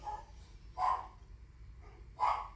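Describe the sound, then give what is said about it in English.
Two distinct dog barks at a home, spaced about a second and a half apart, sound over a steady low background hum, with no one speaking. “And one of the unfortunate things about doing things from home is your dogs and environment start barking.”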